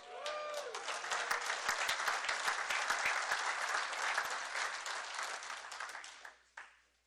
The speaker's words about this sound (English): And, you know, I really deserve that applause because, as most of you know, just how hard it is to be married to an Al-Anon.